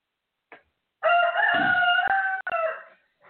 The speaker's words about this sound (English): Excuse me. Could you please run the rooster away?